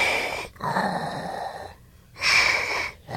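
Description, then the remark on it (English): A person imitates Darth Vader's mechanical breathing: loud, raspy, hissing inhales and exhales in a slow rhythm, separated by brief pauses. “Do the breathing thing.”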